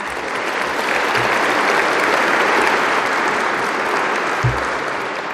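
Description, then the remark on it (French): Sustained applause from a large audience for standing prize winners at an Institut de France prize presentation, a dense, steady wash of clapping at an even loudness for several seconds, with no voices over it. “Je demande à ces lauréats de bien vouloir se lever et je vous demande de les applaudir.”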